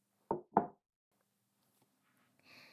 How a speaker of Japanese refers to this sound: 綺麗な食器やティーポットが並んでいるでしょ。今日はこのお屋敷の中でも特に上等なものを用意したんだから。ヨーロッパの貴族が使っていたアンティーク食器よ。じゃあテーブルにお皿を置くわね。